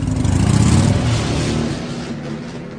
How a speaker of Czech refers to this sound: Otřel si usazené oči rukávem kazajky, vyhoupl se na motorku a našlápl ji. Stroj se vznesl za hlasitým hřevem do vzduchu a zmizel ve tmě.